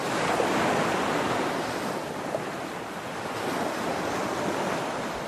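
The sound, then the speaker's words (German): A steady, hollow ocean-like roar, heard by holding a sea snail shell to the ear in an exhibition, fills the whole moment at an even level with gentle swells and no voices. “Und dann hat er aber irgendwann dieses Verhältnis umgedreht und hat gesagt, ich soll jetzt dieser Muschel zuhören.”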